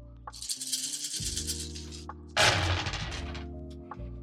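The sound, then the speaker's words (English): Several pilot dice for a role-playing game character are rolled, rattling and clattering across a hard surface, a sustained bright rattling with a louder burst of tumbling partway through, then settling with a few last clicks. No one speaks. “All right, I'm going to roll the pilot dice.”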